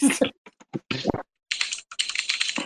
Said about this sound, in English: As soon as I heard the word exhaust, I typed it. Dude, look at my attempt to spell exhaust in a hurry.